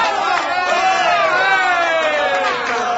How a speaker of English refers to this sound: Let's have a big hand of a round of applause